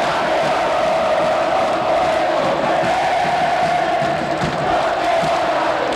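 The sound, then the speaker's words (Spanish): A stadium crowd of Olimpia fans roars in celebration of Montenegro's goal that puts Olimpia 1-0 up. A dense, loud wall of cheering and shouting holds steady for the whole six seconds with no clear individual voices. “¡Como lo disfruta el hincha de Olimpia!”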